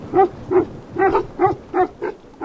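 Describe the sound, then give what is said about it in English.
Three big Tibetan mastiffs bark in deep, booming volleys, about seven loud barks in a fairly steady rhythm over a couple of seconds, at a small mud-walled shack on a bluff overlooking the Mekong river in Tibet, with no one talking. “Our destination for the evening, a small mud-walled shack on a bluff overlooking the river, where a trio of Tibetan mastiffs demand to know why we're here.”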